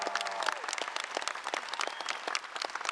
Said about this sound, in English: So go ahead and give John Beaumont a big round of applause.